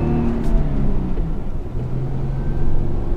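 A jeep engine drones loudly and steadily up close, its deep rumble straining with slight shifts in pitch throughout, no voices over it.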